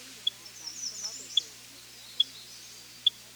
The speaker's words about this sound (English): Purple finches make a dry tink-tink call that distinguishes them from other birds.